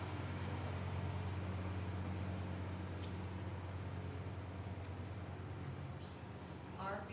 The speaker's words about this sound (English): Can you hang on 1 second until the bus makes its pass here?